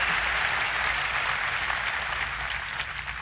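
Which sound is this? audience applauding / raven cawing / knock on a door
audience applauding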